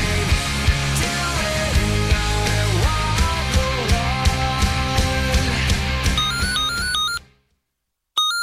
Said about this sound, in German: Boah, das Telefon nervt aber schon wieder.